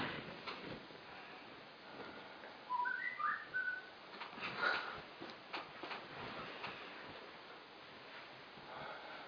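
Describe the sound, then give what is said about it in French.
A few short, bright bird whistles chirp in a quick cluster partway through, set against a steady rushing background like surf. No one speaks. “Si les oiseaux sont convoqués, c'est très bien.”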